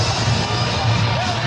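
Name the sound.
stadium crowd booing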